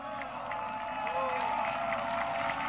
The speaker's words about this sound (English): See how the cheers aren't as loud anymore?